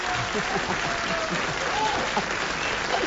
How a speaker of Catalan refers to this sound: Ovació, ovació de gala.